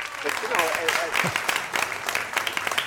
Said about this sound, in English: A round of applause, ladies and gentlemen. Thank you. Thank you.